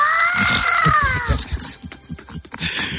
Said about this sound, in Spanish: Oye, sí. Mira, la sirena de una ambulancia, ¿eh? Sí.